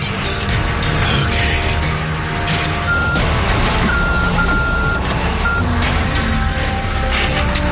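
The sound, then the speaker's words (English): A heavy truck engine rumbles loudly and steadily while a reversing alarm beeps at intervals over the low diesel drone as the trailer backs up to a rig. “The trailer back up to his rig.”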